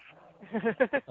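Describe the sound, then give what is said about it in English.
A dog lets out a quick run of three or four short, yelping barks in rapid succession, moderately quiet, with a faint murmur before them. “Your dog doesn't agree.”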